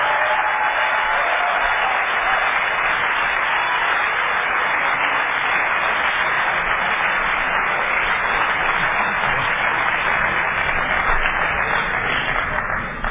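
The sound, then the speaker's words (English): Sustained audience applause for three speakers at a twelve-step recovery meeting, a dense, steady wash of many hands clapping at an even loudness for over ten seconds, with no voices rising above it. “Perhaps another round of applause for all three of our speakers.”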